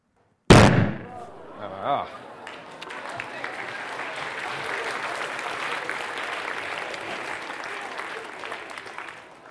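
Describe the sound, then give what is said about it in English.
A single sharp, loud explosive bang rings out as a propane-oxygen mixture of five parts oxygen explodes, followed by a short reaction and then sustained applause from an audience that continues to the end. “But let's see if it goes with a bit of a bigger bang.”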